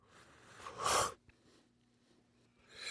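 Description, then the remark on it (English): A short, forceful airy inhale through a Crafty vaporizer, followed by a quiet pause with a faint low hum, then a softer breathy exhale at the end. “Let me have another taste of this because it also is feeling pretty good. Let's go for a second hit.”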